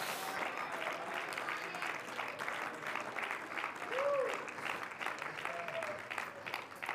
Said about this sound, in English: Somebody clap your hands and just shout to the Lord for a moment.